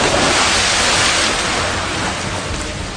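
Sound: sea waves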